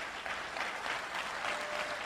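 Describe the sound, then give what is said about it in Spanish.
A convention crowd claps steadily for people attending their first convention, a dense wash of many hands with no break over the short stretch, fairly loud and even throughout, with no voices standing out. “Levante la mano, un fuerte aplauso, felicidades.”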